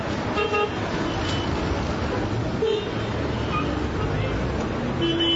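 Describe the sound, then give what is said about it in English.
Dense street traffic rumbles steadily while several car horns honk in short bursts over a constant noisy city background, on the busy streets of Bethlehem outside the Church of the Nativity. “Aggressive street vendors hawk souvenirs as drivers jockey for space on roads clearly designed for camels rather than cars.”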